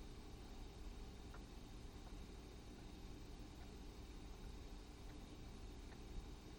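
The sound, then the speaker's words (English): A steady, low engine rumble drones on without a break, like a car idling somewhere outside, faint and muffled under a constant hiss. No one speaks. “just like the car outside there.”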